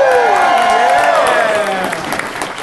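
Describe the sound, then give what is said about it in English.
An audience claps steadily in a dense, continuous patter, with voices cheering and whooping over it; the applause stays fairly loud throughout and eases off slightly toward the end. “Such polite applause.”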